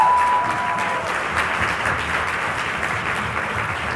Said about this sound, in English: All right. Well, how about we give these ladies a round of applause?